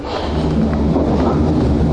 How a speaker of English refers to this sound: That's a loud train.